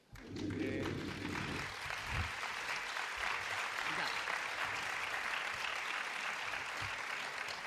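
A crowd bursts into sustained applause, a dense wash of clapping that stays loud and steady for several seconds, with a few heavier thumps near the start.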